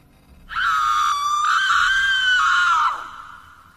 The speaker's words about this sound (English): I suddenly heard a female shriek from somewhere close by.